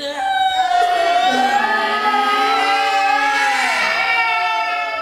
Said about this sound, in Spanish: ¿Qué les parece si todos gritan? ¡Ta-ta-ta! Sí, un grito podrá asustarla y así despertará.